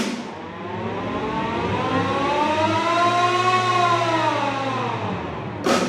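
A great alarm siren wails steadily, its pitch rising and slowly falling in one long sweep, loud, with no voices over it.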